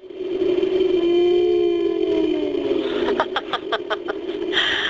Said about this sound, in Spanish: ¿Podemos ballenizar ahora también este delfín? Pues sí, vamos a escuchar a este delfín. ¿Cómo sonaría si tuviera el tamaño de una ballena?